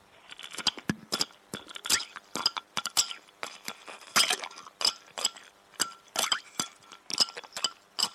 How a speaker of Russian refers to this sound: Вот я поставил перед нашим разговором в холодильник немножко водички, и она там у меня застыла. Сейчас я буду ложечкой ломать этот лед, а ты послушай.